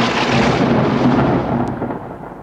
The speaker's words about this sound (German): Donnern macht auch keinen Spaß mehr. Ach, lass doch mal wieder eine große Eiche abbrennen.